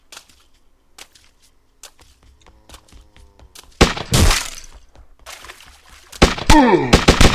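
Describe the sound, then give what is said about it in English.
Faint, sparse ticks and soft, slow zombie footsteps give way to two loud, harsh bursts of video game gunfire fired at the zombie, the second rolling into a ringing, descending whine, with no voices present. “So I went ahead and fired at that one.”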